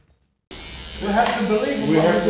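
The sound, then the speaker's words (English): Electric hair clippers start abruptly and buzz steadily, a continuous droning hum, with indistinct voices murmuring in debate in a barbershop in the western Sydney suburb of Granville, Australia. “This barbershop in the western Sydney suburb of Granville is buzzing with debate.”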